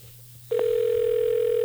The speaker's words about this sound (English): The sound of ringing on the air. This does not bode well.